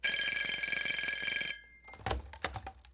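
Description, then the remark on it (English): An old-style telephone bell at a cafe in Deepwater rings loudly and continuously for about a second and a half in the morning, then stops abruptly, followed by a few clunks and rattles as the receiver is picked up. “And then, this morning, I got a phone call.”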